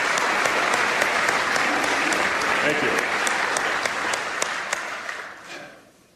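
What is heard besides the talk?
audience applause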